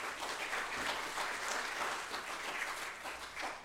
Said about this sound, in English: Give them another round of applause. Tell them thank you.